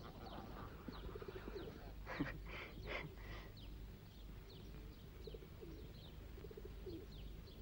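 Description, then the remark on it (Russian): Pigeons coo in soft, low, rolling calls that repeat at intervals, with lighter chirps of smaller birds scattered around them and a steady background hum. “Там люди учатся, тишина должна быть, а ты будешь голубей гонять?”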